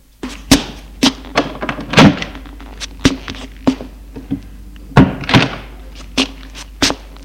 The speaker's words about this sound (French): Voyons la chambre. Il ouvre la porte.